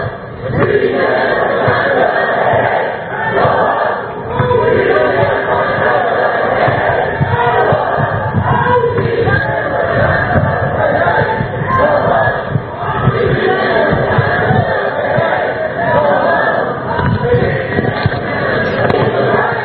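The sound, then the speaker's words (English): A large crowd of protest marchers on Pacific Avenue chants a slogan together in a loud, continuous roar, the words blurred by the echo along the street, with rhythmic swells and scattered shouts throughout. “I believe it's Hey Hey Ho Ho. The Sleeping Band has got to go. Hard to hear because of the echo along Pacific Avenue.”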